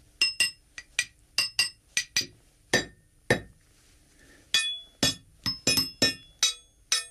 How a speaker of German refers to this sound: Das zentrale Arsenal von Schlagwerkstücken besteht aus Kleinmetallteilen von Zügen und Gleiskörpern. Ich habe hier vier Stück mitgebracht und werde jetzt vorsichtig spielen.